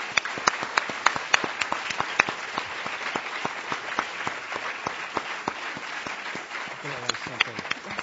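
Steady audience applause closing an evening event, for Uruguay and the other top 10 countries on a list. Many hands clap in a dense, continuous patter, with a few sharper individual claps standing out, sustained at an even level throughout.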